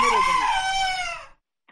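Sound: rooster crowing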